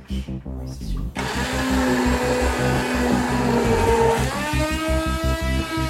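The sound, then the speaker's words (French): A kitchen blender whirs loudly, starting with a lower hum before surging into a full, harsh motor roar that climbs in pitch near the end. No one speaks. “Le mixeur, ça va quand même plus vite.”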